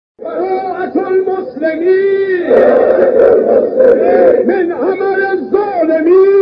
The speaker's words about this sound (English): Meanwhile, a crowd of Iranian pilgrims gathered outside Mecca to chant slogans against the United States and Israel.